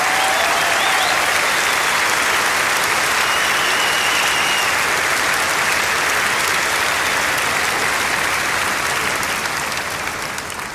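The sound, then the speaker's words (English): A large audience in Malta applauds the Malta Pipe Band, the biggest pipe band on stage there, loudly and steadily, dense clapping filling the whole stretch with no letup, fading only slightly at the very end. “Give them an enormous applause for making the difference.”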